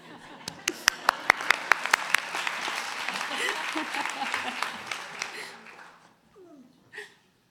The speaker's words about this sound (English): Can we please give all of our honorees another round of applause? on behalf of the commission.